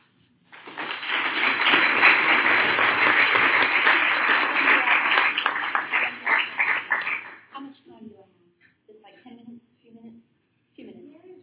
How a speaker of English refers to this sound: So please applaud them.